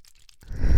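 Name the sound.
dice being rolled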